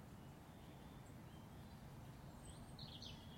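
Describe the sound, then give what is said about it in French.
Quiet outdoor ambience with a steady low hum of crickets, while a few faint birds chirp briefly near the middle and again toward the end. “Écoute le bruit des grillons et des oiseaux.”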